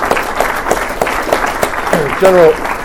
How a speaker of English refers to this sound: As we celebrate, really, on the heels of our most successful intercept that we've done. So let's give a round of applause to everybody that was behind that effort.